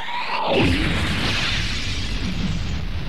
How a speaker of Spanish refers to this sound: el 19 de noviembre de 1984, México se estremeció con la noticia de la explosión que causó la muerte de 324 personas en San Juan Ixhuatepec.